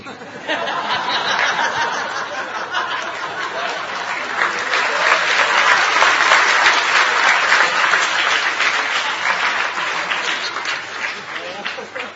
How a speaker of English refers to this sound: Just see my condition. Nobody claps for my philosophy. when my dog-like propensities come out, everybody claps.